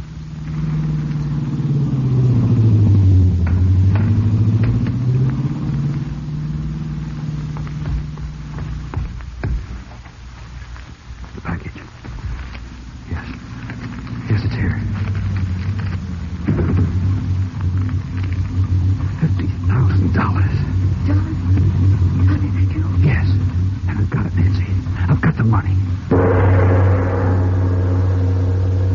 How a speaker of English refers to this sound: Nancy would drive past slowly, feigning motor trouble